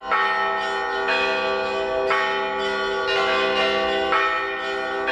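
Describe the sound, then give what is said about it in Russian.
Bells of the Staropokrovsky church in Rostov-on-Don ring out loudly and continuously on City Day as a procession carries out an icon of Saint Dmitry of Rostov, several bells overlapping in a rich, sustained peal with fresh strikes roughly every second, no voices present. “Под звон колоколов из Старопокровского храма крестным ходом была вынесена икона небесного покровителя Ростова-на-Дону, святителя Дмитрия Ростовского.”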